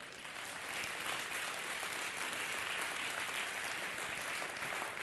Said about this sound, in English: Come on, you feel the same as I do. Give it another hand clap.